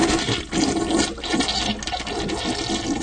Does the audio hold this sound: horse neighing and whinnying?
no